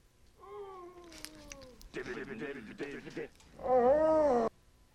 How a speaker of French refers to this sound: Alors, vous avez sûrement reconnu grâce à ce magnifique grognement de zombies et à ce rythme endiablé le film Shaun of the Dead, qui est le premier film dont j'ai décidé de vous parler